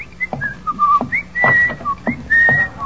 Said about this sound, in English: Whistling in the hall is just the first of a long and distinguished line of violations